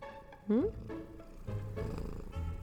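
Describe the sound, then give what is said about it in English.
A cat purrs, a steady low rumble running throughout, with a short rising chirp-like meow near the start. “I can't record with you happily purring there, can I?”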